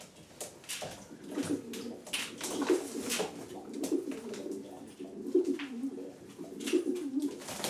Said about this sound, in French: Donc elle s'occupe des pigeonneaux, vitesse, et moi je m'occupe des pigeons de grand fond, les marathons.